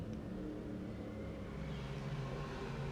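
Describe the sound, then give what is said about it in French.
A steady low rumble of cars driving by outside a window, muffled, with engine hum rising slightly toward the end and no voices. “derrière ma fenêtre, il y a un tas de bruit. Des voitures roulent, des oiseaux chantent.”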